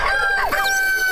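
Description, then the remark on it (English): A rooster crows once, a loud, brassy call with rising and falling pitch, cut short after about a second, over a faint steady tone. “Where the rooster crows.”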